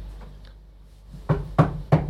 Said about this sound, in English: A hard knocking was heard at the front door. The couple turned to each other. No guests were expected. Who could it be? The rapping continued.